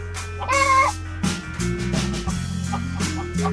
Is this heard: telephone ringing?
no